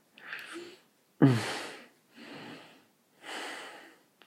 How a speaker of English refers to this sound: Sorry, this one's just a lot of heavy breathing.